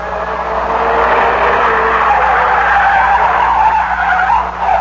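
Car tires skid and squeal loudly and continuously for several seconds, a sustained screech with shifting pitch as the car circles wildly, with no voices present.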